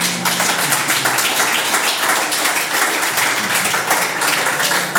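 Sustained applause from an audience, a dense, steady wash of many hands clapping for the full five seconds at a fairly loud, even level, with no voices on top.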